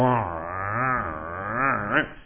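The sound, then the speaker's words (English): A voice imitates the sound an object made after being stood up, likened to a 64 T-Bird car engine, with a continuous, rough, growling rumble for about two seconds, its pitch wavering up and down in uneven surges, with no other talk. “Things sat like this, and it started making like this sound, you know, like your 64 T-Bird would make.”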